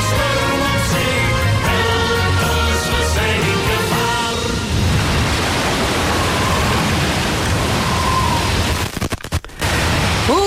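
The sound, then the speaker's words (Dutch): A song with instruments gives way to a loud, steady roar of storm noise, like rushing wind and heavy rain, with a few sharp crackling bursts near the end. “¡Qué tormenta!”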